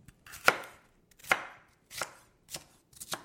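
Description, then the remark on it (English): A knife chops vegetables on a cutting board, about six sharp, crisp strikes at an uneven, unhurried pace, fairly quiet, with no talking. “So I'll start chopping.”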